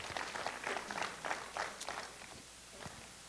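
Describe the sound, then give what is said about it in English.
An audience in a sanctuary claps together as a clap offering, a dense patter of hand claps that rises in rough bursts for about two seconds and then thins out and fades, with no talking. “If you believe that, put your hands together and give him a clap offering in the sanctuary today.”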